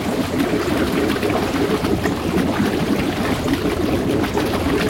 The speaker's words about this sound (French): L'eau monte! L'eau monte jusqu'à nos hanches!